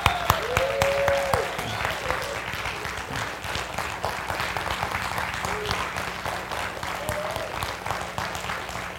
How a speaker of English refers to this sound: But before we do that, please make sure that we can give them a round of applause, a hoop and a holler for all they do for us.